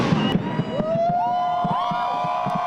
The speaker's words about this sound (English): A reduced crowd watched the fireworks display at Sydney Harbour, an annual tradition. Sydney Lord Mayor Clover Moore says at past events, 1 million people have witnessed the nighttime show at the harbour. This time, it was only 36,000.